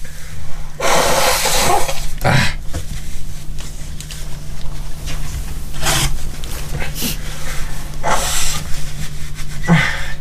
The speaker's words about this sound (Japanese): 限界だった。ちょっとごめん、もう無理だった。ちょっともう鼻かんでから、もう一回。